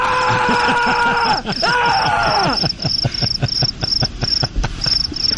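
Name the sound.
cricket chirping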